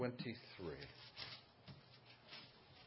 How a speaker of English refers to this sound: Still hear pages turning, so I'll wait.